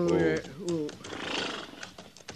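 A horse gives a loud whinny that wavers and slides downward in pitch, then breathes out in a rough, noisy snort with a few light knocks of movement, as riders pull up in the shade of big rocks to rest the horses.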